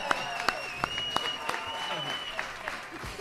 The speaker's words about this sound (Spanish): ¡Bomba! ¡Bomba! ¡Eso merece un aplauso! ¡Se merece un aplauso!